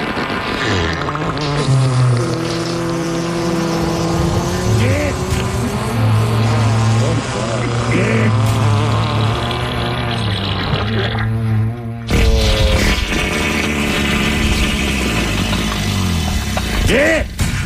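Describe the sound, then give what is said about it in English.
A medley of fart sounds runs for nearly twenty seconds, a loud string of low, buzzy, rumbling blasts that slide up and down in pitch, with an abrupt shift to a rougher burst partway through. “How about a fart medley and thrill shotgun guns?”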